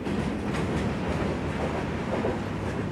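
A freight train rolls along the tracks, a loud, steady rumble of wheels and cars with faint rhythmic clatter running underneath. No one speaks.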